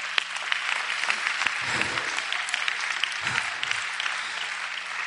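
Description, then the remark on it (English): A church audience applauds steadily, dense overlapping hand claps, with a few low murmured voices rising briefly underneath. “Oh, clap your hands, church.”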